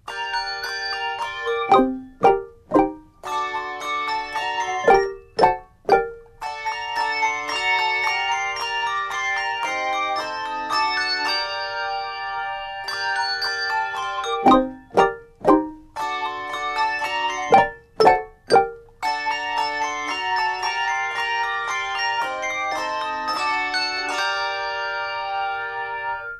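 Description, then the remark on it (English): Handbells ring out in a lively ensemble passage, with clusters of sharp martellato strikes that thud and clang in quick bursts between sustained, shimmering chords. “An excerpt of a piece called Scherzo, and we can use the martellato in that.”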